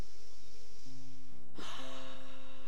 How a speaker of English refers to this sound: I invite you to take a deep breath in as you close your eyes and get comfortable in your seat. Release and let go. One more time, breathing in deeply, just nice big cleansing breath.